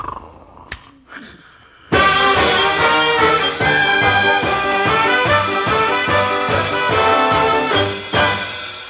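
After a couple of quiet seconds, loud brassy band music suddenly blares from an RCA clock radio beside a bed, set to wake a sleeper, playing full and steady with a regular thumping beat until the end.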